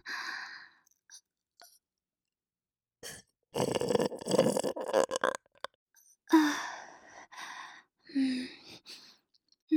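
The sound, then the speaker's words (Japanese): Loud, close-up burps let out near the listener's ear after having chow mein: a long, rough, rumbling belch followed by a few shorter croaky ones, separated by soft breaths and brief silences. “あなたのチャーメン飲んで出たゲップは下品で汚くて、でも結構好きな人多いみたいなんですよね。”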